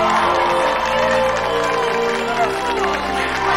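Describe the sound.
A crowd cheers and claps as a large evergreen Christmas tree is lit up at Christmasland, a steady, dense wash of noise with many overlapping voices and scattered hand claps blending together throughout the few seconds.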